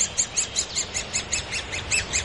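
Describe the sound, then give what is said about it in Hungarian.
A great spotted woodpecker calls in a rapid, steady series of sharp, high-pitched notes, around ten in quick succession, clear with no voices over them, in a floodplain forest at Budakalász, Hungary. “Ez egy tarka harkály, valószínűleg nagy tarka harkály. Vegyük fel a hangját.”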